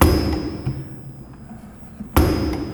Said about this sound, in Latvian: Uz to pamāti ir arī radīt šie te maketi, kuras arī interesentiem būs iespēja izmēģināt, ne tikai apskatīties ar acīm. Nu, kur arī, piemēram, ciļņa āmurs, kas darbojās.